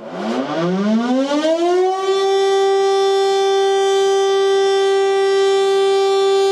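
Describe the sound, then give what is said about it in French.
A lifeboat siren winds up over about two seconds, rising in pitch, then holds a loud, steady, droning wail with no voices over it. “Car depuis son apparition à 7, même si nous n'avons finalement rien compris au message de Jésus, on se souvient que son allocution avait été interrompue par la sirène du canot de sauvetage.”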